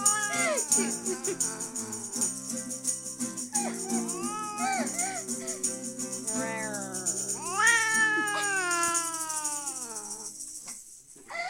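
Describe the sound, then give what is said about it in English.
A cat meows repeatedly in drawn-out, wavering cries, fairly loud, the calls rising and falling in pitch with brief pauses between them. “We're gonna have a Cat Beast Party tonight. There's nothing better to do. Hang with the cat.”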